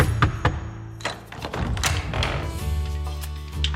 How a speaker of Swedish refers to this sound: Tjänaren knackade på och steg in i salen.